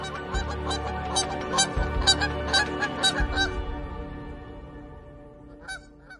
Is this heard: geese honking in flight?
yes